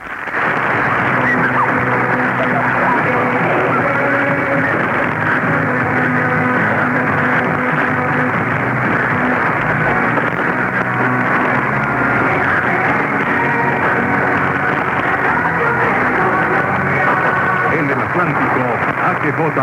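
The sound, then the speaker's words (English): A distant AM radio station from Colombia on 760, received during auroral conditions, comes through thin and band-limited, its muffled voice and sounds wavering beneath a steady wash of hiss and crackling thunderstorm static for the whole stretch. “For example, despite thunderstorm static, Columbia was heard on 760 with a good signal.”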